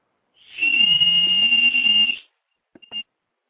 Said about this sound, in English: Now, this whistle does have a hole at the bottom where you move your thumb, either fully closed or half or all the way open, and you have different pitches from that